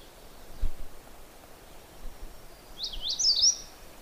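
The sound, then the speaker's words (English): A magnolia warbler sings a short, quick phrase of high, sweet notes over a steady hiss of outdoor background noise with faint rustling. “And magnolia warblers are kind of blue-gray on the back.”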